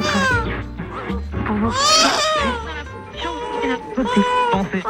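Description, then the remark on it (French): A baby cries loudly and continuously for several seconds in a jingle for Radio Campus, Brussels, 92.1, its wails rising and falling in pitch, with a low steady tone underneath. “Depuis 1980, Radio Campus apaise bébé.”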